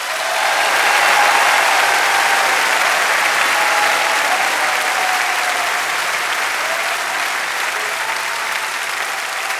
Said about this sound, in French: Je voudrais aussi remercier l'équipe extraordinaire de techniciens qui travaillent avec moi. Je voudrais des applaudissements, mais alors très fort.